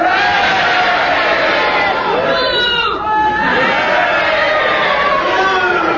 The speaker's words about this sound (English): if you think he was going on to say a silken nappy, then you're with Kenneth Williams and you cheer. And if you disagree and you're with Clement Freud on this and give him justification, then you boo. And will you all do it together now?